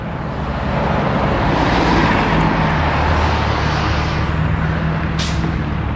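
A bus rumbles past on the road, its steady low engine roar swelling over traffic noise, with a brief hiss of air brakes near the end.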